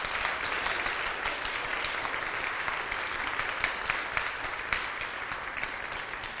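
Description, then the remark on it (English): Sustained audience applause, a dense crackle of many hands clapping steadily at an even, fairly loud level for several seconds, with no voices standing out. “But let's give them a round of applause.”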